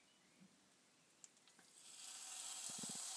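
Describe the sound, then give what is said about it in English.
Pieces of pork hit a hot frying pan and break into a loud, steady sizzle after a few quiet clicks, the hiss swelling and holding, with soft knocks of the pan near the end. “Oh, that's a gratifyingly? Gratifyingly sizzly sound.”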